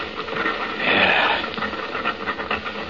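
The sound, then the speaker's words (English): A rough, breathy animal call swells up and fades over about half a second, faintly resembling an elephant's trumpet, set against a steady hissing background with no talking. “Listen to that. It almost does sound like an elephant.”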